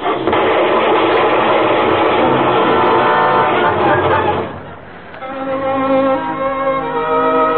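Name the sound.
car engine running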